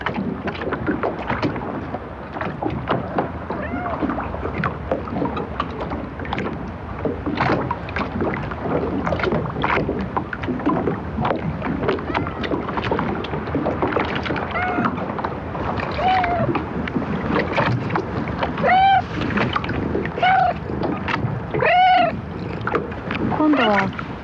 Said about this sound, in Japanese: ボートの漁船が友綱で岸壁とつながれ、穏やかな波に揺れています。